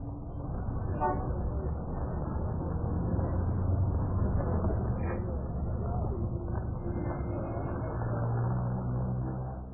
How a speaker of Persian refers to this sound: صدای آشنا. صدای یک شهر.